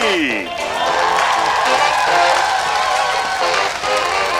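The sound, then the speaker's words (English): A studio audience on Planet TV bursts into loud, sustained clapping and cheering, like a laugh track, that fills nearly the whole stretch, following a brief voice at the very start. “There's a creepy voice coming from the sky and invisible people clapping.”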